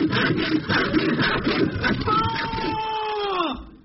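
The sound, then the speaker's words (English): A hand saw rasps through a wooden box in quick, rhythmic back-and-forth strokes, fairly loud, as a person lying in the box is sawn in half in a magic act, then gives way to a sustained tone that sags in pitch before fading out. “Yes, I'm in position, and the saw looks pretty sharp, and here he goes, sawing through the box now.”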